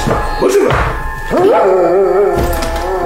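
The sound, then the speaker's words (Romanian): A restless dog barks and yelps in two loud, drawn-out bursts, the second longer and wavering, followed by a short sharp yip at the end, as a peasant chases it off before going into the house, with no talking. “După ce a urmărit barza în zborul ei până a pierdut-o din vedere, cojanul își îndeasă căciula peste urechi, tușește ușor din obișnuință și, gonind câinele ce nu-i de pace, intră în casă.”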